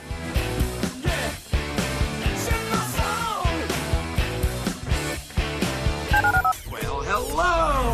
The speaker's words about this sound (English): Dial the phone.